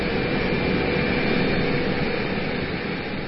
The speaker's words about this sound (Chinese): 就在我陶醉在于思绪、蓝天和海洋间之时，有一架很大的飞机突然在我眼前从窗户旁飞过。